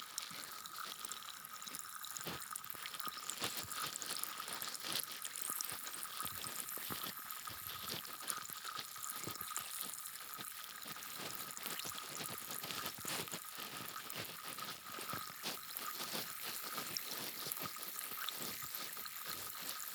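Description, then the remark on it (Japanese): Steady fizzing and crackling of a carbonated cotton swab cleaning inside an ear, like carbonated bubbles popping, with faint wet scratchy movements and brief clicks, continuous and intimate without any talking. “炭酸綿棒で耳の中を自由自在に掃除するのも面白いですね。”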